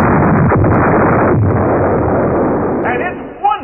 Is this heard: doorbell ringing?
no